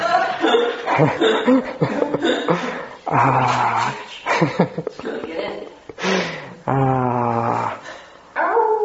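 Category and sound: animal, dog barking outside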